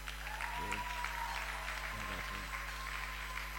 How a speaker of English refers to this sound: Clap for them again.